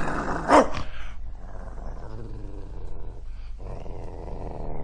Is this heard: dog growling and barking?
yes